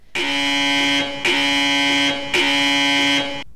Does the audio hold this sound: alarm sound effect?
yes